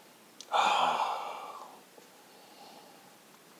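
A long, breathy inhale through the nose as someone sniffs the aroma of a drink lasts about a second, loud at first and then tapering off, followed by a quiet pause with a faint click at the end.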